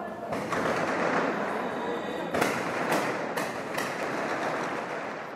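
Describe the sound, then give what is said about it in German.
Several sharp rifle shots burst out in quick succession, about four in a couple of seconds, as young militiamen on cemetery walls fire volleys into the sky over Beirut in alternating rhythm at a funeral, over a loud, continuous roar of crowd noise and indistinct voices. “In rhythmischem Wechsel feuert der Nachwuchs Gewehrsalven in den Himmel über Beirut.”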